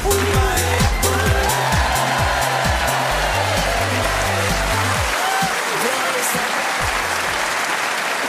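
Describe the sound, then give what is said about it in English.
Loud, dense clapping from a large audience in Canterbury, trying to drown out singing, fills the whole stretch, with a steady low rhythmic thump and some voices singing along underneath. “Tony Hawk singing with the audience here in Canterbury desperately trying to drown out the sound with clapping”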